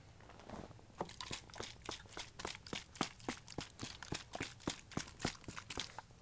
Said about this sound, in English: Now for the relaxing noises of me beating my dog with a plastic bottle. I took this plastic bottle off the streets to save the turtles.